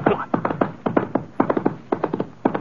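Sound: horse hooves trotting away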